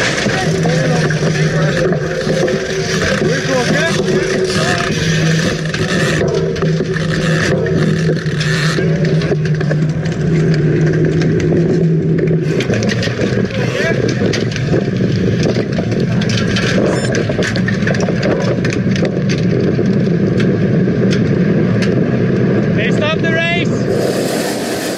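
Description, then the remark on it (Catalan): A race motorcycle engine drones steadily for the whole stretch, loud, with excited voices talking over it and a busy roar of background noise. The motorbike is riding in a cycling race, where it slowed Tadej Pogačar's attack. “La moto ha rallentato lo scatto di Tadej.”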